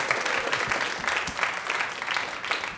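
An audience breaks into steady applause, many hands clapping at once in a dense, even wash of sound that holds at a constant loudness throughout with no voices.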